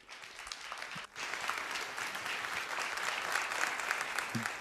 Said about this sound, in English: As I introduce them now, would we collectively give them a warm applause?